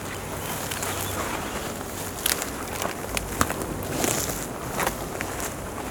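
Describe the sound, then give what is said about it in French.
Crunchy footsteps step off a trail into brittle vegetation in Lozère, France, an irregular run of crackling, rustling crunches over a steady hiss of insects, with a few sharper snaps standing out. “Un son qui croustille.”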